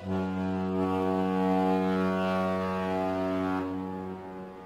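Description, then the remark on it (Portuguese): The horn of a huge boat blasts in thick morning fog on the water, one long, deep, steady tone, loud, holding for several seconds before fading slightly at the end. No one speaks. “Um dia, de manhã, um nevoeiro imenso, não se via nada, em que estava eu sozinho, e de repente soou-se a buzina de um barco enorme.”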